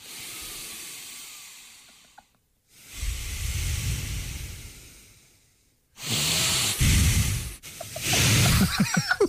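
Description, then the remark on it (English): Old men breathe heavily in long, rushing cycles, each loud, hissing inhale or exhale lasting a couple of seconds, with brief pauses between and no talking. “You can hear the sea in their breathing. The old men are breathing.”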